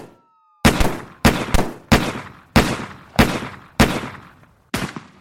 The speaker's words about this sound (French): 11h24, premiers échanges de coups de feu entre les policiers et les deux adolescents.